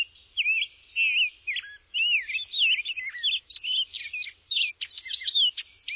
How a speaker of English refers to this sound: Birds. Hundreds, thousands of birds. Rose-breasted grosbeaks, orchard orioles, painted buntings, warblers, flock after flock, they alight in trees and shrubs, sparkling indigo buntings perch alongside velvety scarlet tanagers.